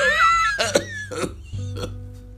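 human body sound, hard coughing fit

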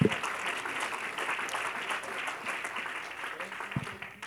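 crowd, audience clapping hands

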